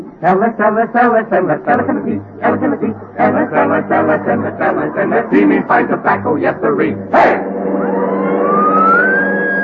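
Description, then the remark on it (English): A police car siren starts up near the end, one loud rising wail climbing in pitch, after several seconds of people talking. “get the police car.”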